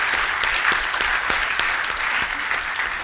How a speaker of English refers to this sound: Go ahead and give him a round of applause right now. Let's do that.